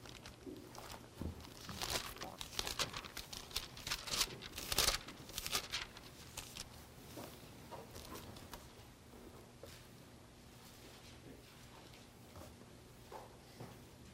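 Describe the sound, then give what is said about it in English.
Many people in an audience turn Bible pages to find Ezekiel chapter 33, a dense patter of soft paper rustles and flips that is busiest at first, then thins to scattered turns. “I'm glad to hear paper turning rather than phones scanning up and down.”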